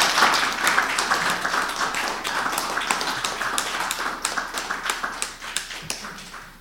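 Audience applause: many hands clapping in a dense, steady patter that stays fairly loud throughout, with crisp overlapping claps and no voices.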